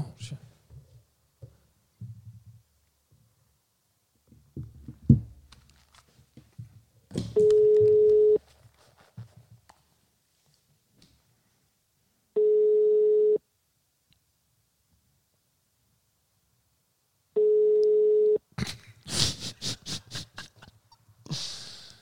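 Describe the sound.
An outgoing phone call to Ruben Søltoft rings: three steady single-pitch tones about a second long, spaced several seconds apart, clear, with quiet murmuring voices and small noises between them.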